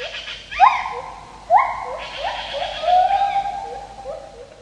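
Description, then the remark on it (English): A white-handed gibbon's whistle call: a series of clear, swooping hoots that glide upward and overlap one another, loud and tonal at mid pitch, with no talking. “That whistle is likely the sound of the white-handed gibbon, Edward says, and he sent us this recording of the call.”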